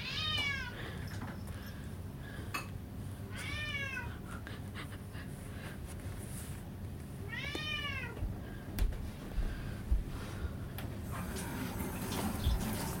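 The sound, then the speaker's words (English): A male cat meows three times, each call a drawn-out, wavering cry spaced a few seconds apart, over a steady low background hum with a few faint clicks. “Can we take out your meowing chip pen?”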